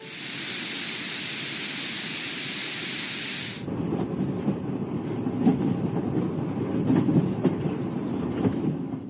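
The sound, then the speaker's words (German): A nature-sound track from an acoustic alarm clock: a steady, rolling rumble like a train moving along rails, heavy and continuous, opening with a bright rushing hiss for a few seconds before the low rattling roar takes over. No voices. “Okay, also klingt so ein bisschen nach Zug, ne?”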